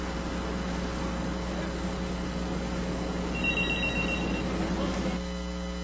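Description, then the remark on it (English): A bell rings once in a short, high-pitched burst lasting about a second, partway through, over a steady low hum and hiss. Nobody speaks. “Saved by the Bell.”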